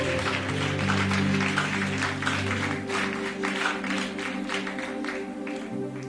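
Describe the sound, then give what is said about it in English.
A church audience claps together as a clap offering to the Lord in a dense, continuous burst for about six seconds, the applause staying fairly even in loudness over a steady backdrop of sustained, low musical tones. “Give the Lord a big clap offering here.”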